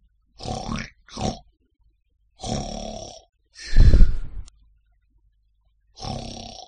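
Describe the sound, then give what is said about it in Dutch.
Loud, rough snoring from a person asleep: five throaty, rattling snores at uneven intervals, the fourth the deepest and heaviest, with short silences between them. “Een snurkje is wat je soms hoort als iemand ligt te slapen.”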